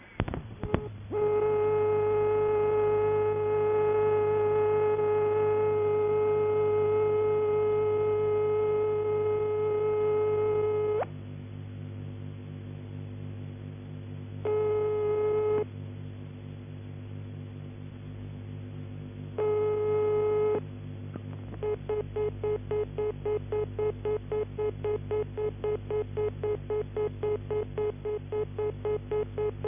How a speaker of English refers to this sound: Finally, hear the dial tone, ringing tone and busy tone of a PAX fitted out with a transistorized tone generator. The new Japanese ones have tones very similar to these.